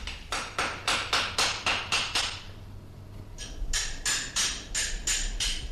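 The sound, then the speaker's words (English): Sharp, ringing hammer blows on metal from shoeing a police horse, struck in a quick steady rhythm: about eight strikes, a short pause, then another run of around seven, with no talking. “It's just shoeing.”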